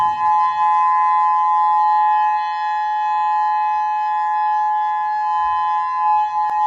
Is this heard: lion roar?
no